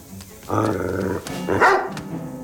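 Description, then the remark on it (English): A dog wearing a priest's collar barks in two loud, drawn-out, tonal outbursts, the first longer and steadier, the second rising sharply, with no one talking. “A dog wearing a priest's collar.”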